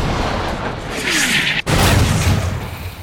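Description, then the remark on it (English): Twin ship cannons aboard a cruiser fire at a junk on a bay in two loud blasts, the volley starting with the forward cannon, a deep rumbling roar filling the whole stretch with only a brief gap between them. No voices are heard. “The junk began a starboard turn just as the twin cannons aboard the cruiser fired with ear-knocking reports.”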